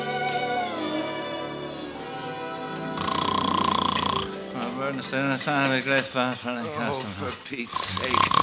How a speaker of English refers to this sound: Can't you stop that snoring?